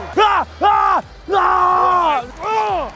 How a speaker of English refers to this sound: Yeah, yeah. And then as I yell, I get myself more hyped.